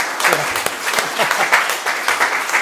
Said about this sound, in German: Also erstmal euch beiden in eurer Spontanität ganz lieben Dank. Applaus für euch. Toll.